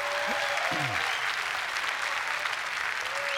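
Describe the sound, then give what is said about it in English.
A church audience claps together as a clap offering to the Lord, a steady, dense wash of applause that holds at an even loudness throughout, with a few brief cheering voices rising near the start. “So if you're ready for God to give you a new beginning, I want you to give the Lord a clap offering.”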